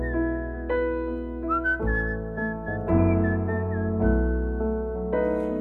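A whistled melody rises and falls over steady instrumental backing, the tune clear and fairly loud, moving through a few short phrases with no voices.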